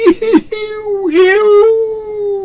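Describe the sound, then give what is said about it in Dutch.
A human voice imitates the whining howl of a stray dog: a few short, wavering yelps, then one long, drawn-out tonal wail that slides and holds steady, loud. “Pijnlijk getroffen, jankte meneer Peters met een lange uithaal.”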